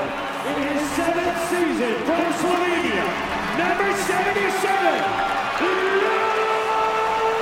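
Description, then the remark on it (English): A large arena crowd cheers without pause, a loud, dense roar of overlapping voices with rising shouts and whoops threaded through it, holding steady for about seven seconds. “Can't tell how loud the cheer is.”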